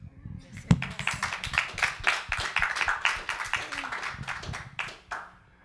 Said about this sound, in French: Donc, je vous laisse maintenant la place à vous. On vous applaudit.